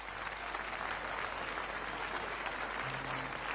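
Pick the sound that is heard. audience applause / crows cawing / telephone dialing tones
audience applause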